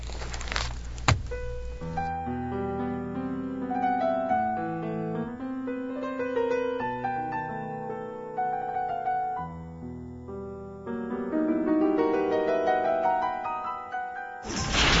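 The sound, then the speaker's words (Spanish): A short instrumental musical interlude of about twelve seconds between segments of a radio program, with shifting melodic notes over a steady moderate level and brief noisy bursts at the start and end. No one speaks. “Bien, vamos a hacer un breve puente musical y regresaremos.”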